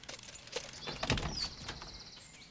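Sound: door being opened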